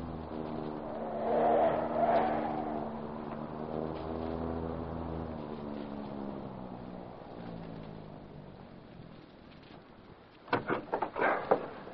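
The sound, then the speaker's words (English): A car engine hums steadily and its pitch drops as the car slows and turns into an alley in the darkness, followed near the end by a few sharp clunks like doors. “I'll turn into this alley.”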